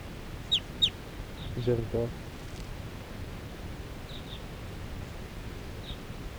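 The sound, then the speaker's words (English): A flock of four wild birds calls in scattered, short, high chirps, some in quick pairs, with a brief lower clucking note early on, all fairly faint over a steady hiss. “And the wild birds, four wild birds in the flock are calling.”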